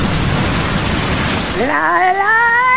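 Steady, dense hiss of falling rain fills the first half, then a sustained melodic voice, like someone singing, rises in over the softer rain until the end.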